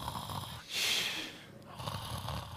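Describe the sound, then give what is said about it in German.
A person mimics with their voice someone who fell asleep during a church sermon and began snoring: a raspy, drawn-out inhale-and-exhale snore followed by a softer second rattle, fairly loud, with no talking. “dieser Pastor, dem ist das auch passiert, der hat also hat gepredigt und da ist jemand eingeschlafen und hat angefangen zu schnarchen.”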